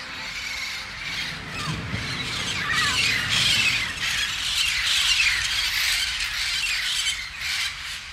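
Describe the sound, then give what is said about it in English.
Loud, harsh bird squawks repeat continuously over about eight seconds, with overlapping shrill calls that suggest several birds, and no speech. “So, if they shout at you from the ground, little bird, fly proud.”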